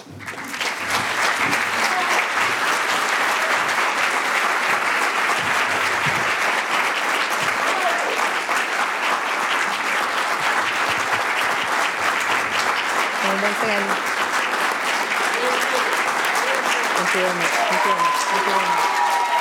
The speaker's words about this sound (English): The four of us take this as a huge applause and recognition to the people of Venezuela, and we are moved and grateful.